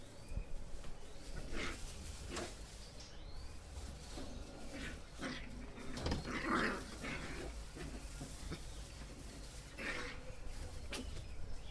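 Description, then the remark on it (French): About 20 dogs bark and whine in an echoing kennel, with scattered yelps and short bursts over a constant noisy background. “Il y a un roulement assez fort quand même, hein, 20 chiens.”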